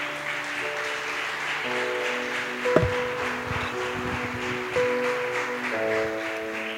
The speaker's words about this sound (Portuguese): Eu sei que muitos pais trabalham muito, e nós queremos agradecer a vocês, pais, honrar vocês, homens. Uma salva de palmas para os homens dessa igreja.